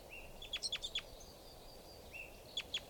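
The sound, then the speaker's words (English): Thin, high-pitched begging calls from a baby bird: a quick burst of five or six sharp chirps, a pause, then a few more, over a steady low background hiss. “Here's the baby begging again, different one.”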